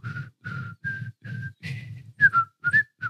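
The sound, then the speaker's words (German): A woman whistles the French national anthem, a clear run of short, separated notes rising and falling in a steady rhythm, with no talking over it. “Und sie pfeift die französische Nationalhymne.”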